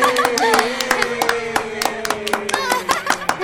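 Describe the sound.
A group claps in quick, uneven bursts for about three seconds, the sharp claps overlapping steadily while a voice carries on underneath at moderate loudness.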